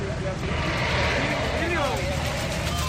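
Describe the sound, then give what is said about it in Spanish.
A high-pressure hose blasts into sewer drains to unclog them after floods left hard-to-remove mud. It makes a loud, steady, unbroken rushing roar over the low engine rumble of machines and trucks working in the area, with a brief indistinct voice in the middle. “Esto concretamente que suena es la manguera intentando desatascar las alcantarillas, muy importante, sobre todo si vienen lluvias.”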